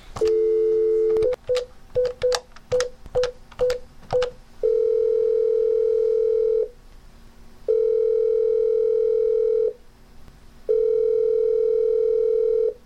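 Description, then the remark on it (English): Telephone line tones with no voices: a brief dial tone, a quick run of about eight keypad beeps, then three long, steady ringing tones separated by short pauses, clear. “But let's go to the phones.”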